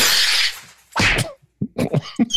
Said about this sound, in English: That's the bottle smashing.